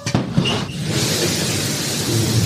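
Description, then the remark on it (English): A rocket engine's thrust roars in a steady, dense rumble that swells in after a few sharp crackles and then holds loud and unbroken to the end, with no voices. “You can hear it guttural thrust and.”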